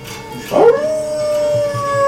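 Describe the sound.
A person lets out a single drawn-out howl imitating a wolf, for the film The Howling, rising sharply before settling into a long, steady wavering tone that holds to the end, loud.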